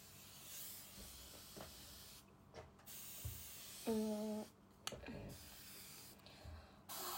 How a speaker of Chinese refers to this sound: 再，对，喷点保湿喷雾。